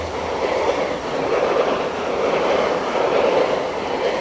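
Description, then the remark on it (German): A train rumbles past, a steady, loud roar of wheels on rails with faint clattering that holds at an even level for the whole stretch, with no one speaking. “Ich weiss jetzt nicht recht, ob man es gehört mit dem Zug, der gerade vorbeifährt.”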